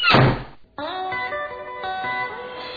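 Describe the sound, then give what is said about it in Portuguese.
A single heavy, booming door slam thuds out, then dies away, followed by a steady sustained tonal drone with layered harmonic tones that holds to the end. “Quantas portas ainda irão bater?”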